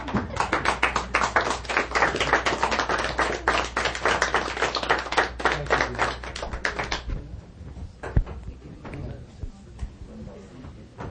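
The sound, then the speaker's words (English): A standing audience breaks into dense, steady applause, many hands clapping loudly for about seven seconds before it tapers off into scattered claps and a faint murmur. “Would you stand with me and I give a applause for...”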